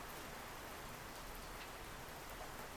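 Steady rain falls throughout while people without umbrellas shelter from it under a cherry tree, a dense, even hiss of drops pattering on surfaces, moderately loud and continuous with no voices.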